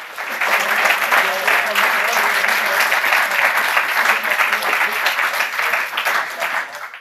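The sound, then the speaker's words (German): An audience applauds a team's first project steadily for about seven seconds, a dense, even patter of many hands clapping that holds its level and then tapers off at the end. “Erstmal ein Applaus soweit für das erste Projekt des Teams.”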